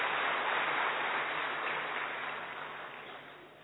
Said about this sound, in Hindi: आदरणीय भाई साहब एक बार तालियों से हम स्वागत करें।